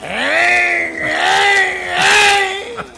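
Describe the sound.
A voice imitates a motorcycle with no muffler: one loud, continuous buzzing drone lasting about three seconds, wavering in pitch and swelling twice like an engine revving.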